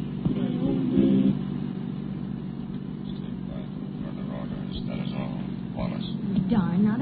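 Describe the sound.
A car engine roars as it speeds away, a steady low rumble that swells at the start and climbs again in pitch near the end, with murmured voices underneath.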